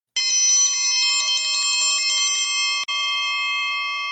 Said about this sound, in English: And I'm saved by the bell. Or in this case, the clanging of the chuck wagon triangle, telling us to wrap this episode up with our shootouts and shoutouts.